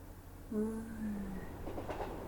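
electric train running

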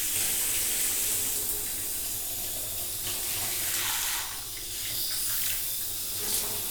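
shower water running

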